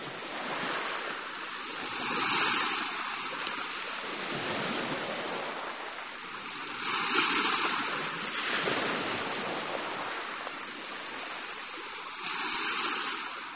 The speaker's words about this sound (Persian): این آوای طبیعت. این آوای دریاست.